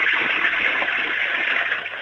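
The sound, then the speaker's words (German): A loud, steady rush of water from a flushing toilet, shown off by a caller on an Austrian radio show, a dense hissing roar that holds almost evenly for about two seconds before easing slightly at the end. “Die ist ja voll laut. Deine Klospülung.”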